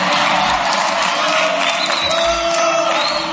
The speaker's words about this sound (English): I've been booed in better places than this, believe me.